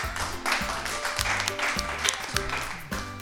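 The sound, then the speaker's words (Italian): An audience in Bari applauds the inventor of the pressure cooker, steadily for a few seconds, a dense, even clatter of many hands, with low tonal sounds pulsing underneath the clapping. “Un applauso.”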